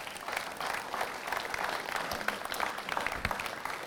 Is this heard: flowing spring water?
no